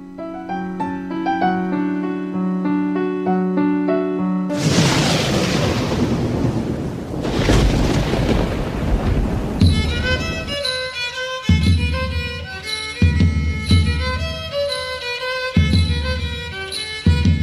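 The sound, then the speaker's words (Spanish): Music gives way to a loud, roaring burst of heavy rain with rumbling thunder for about five seconds, then the music returns with a steady pulsing beat. “¡Qué linda la chupia! Se largó, con todo.”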